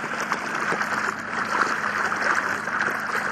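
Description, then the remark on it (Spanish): Steady water sounds of a lagoon gently lapping and trickling against a small boat near a small artificial island, a continuous soft wash with faint gurgles and no voices. “El silencio nos deja escuchar el agua de la laguna,”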